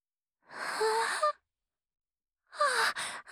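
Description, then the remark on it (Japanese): A breathy yawn from a person who is getting sleepy, with a soft voiced tone that rises and falls, followed after a short pause by a second airy, sighing breath. “ごめんね、ついあくびが出ちゃった。”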